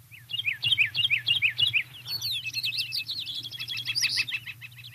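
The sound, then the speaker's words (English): A bird calls in quick, repeated, bright chirping phrases, first in evenly spaced notes, then a faster trill. A steady low hum runs underneath. “Oh, there's the bird call.”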